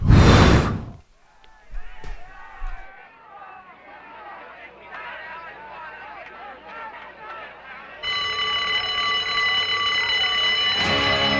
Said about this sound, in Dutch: Maar ik vind het wel leuk, moet je straks maar eens even opletten, dat belletje van die school. Want dan gaat de school aan, hè. Als er een bel gaat, dan moet je naar binnen toe.